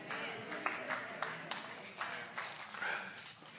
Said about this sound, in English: Boy, that was a pitiful clap.